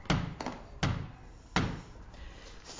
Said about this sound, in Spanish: En el bosque hay una casa que tiene una ventanita. Viene un cerdito corriendo y llamo a la puertecita.